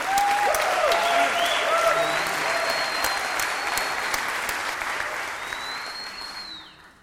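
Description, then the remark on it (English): Sustained applause from an audience at a disability rights activists' event, welcoming a speaker: a dense steady clatter of many hands clapping for several seconds, with faint whistles riding above it before the clapping tapers off at the end. “Everyone, please, a round of applause”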